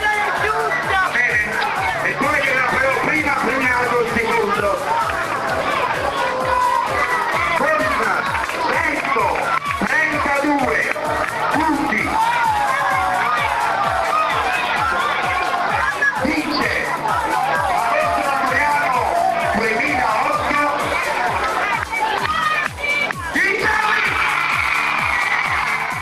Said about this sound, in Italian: L'entusiasmo è alle stelle, l'applauso di tutte le squadre, l'applauso ai vincitori. In questo momento i vincitori stanno entrando in campo